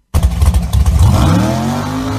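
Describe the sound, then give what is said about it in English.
A student at Frank Hawley's Drag Racing School does a burnout in the school's Firebird super gas drag car: a loud engine rumbles and revs in choppy bursts, then rises into a sustained roar with climbing tones and tire noise, with no talking. “Student doing a burnout, Frank Hawley watching over him in the school's Firebird super gas car, and that's how the next generation of drag racers come around.”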